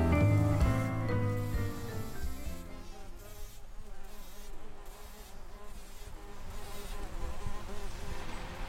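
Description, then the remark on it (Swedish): Bees buzz steadily in a rose bush in a garden in Roslagen in midsummer, a continuous droning hum that wavers in pitch as insects move about, with no voices present. “Jo, det är några bin i en rosenbuske som är inspelade mitt i sommaren.”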